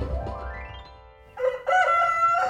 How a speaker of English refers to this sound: Be still, rooster.